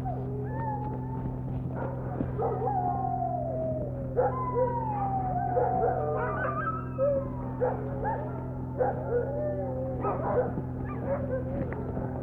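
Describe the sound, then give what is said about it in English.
A sled dog whimpers and yips in squeaky, high-pitched bursts and sliding whines, nearly nonstop, over a steady low droning hum. “So squeaky.”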